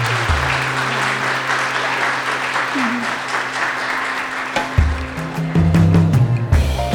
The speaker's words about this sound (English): So just the value of the people in this room is so great. I'd love to give you a round of applause.